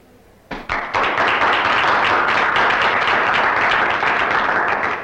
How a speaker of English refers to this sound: Tell me, Mr. Maverick, why are you applauding?